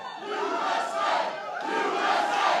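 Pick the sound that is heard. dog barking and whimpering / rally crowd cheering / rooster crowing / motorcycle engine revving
rally crowd cheering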